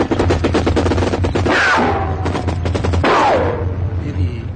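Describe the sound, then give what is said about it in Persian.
Rapid bursts of automatic gunfire crackle in dense, repeated volleys, with a low rumble underneath and a couple of whistling, descending tones cutting through the shots; Iraqi forces open fire at a war front line right after a can is thrown. “نگاه کن قوطی عربی رو پرت میکنه بلا فاصله شلیک به اون شروع میشه.”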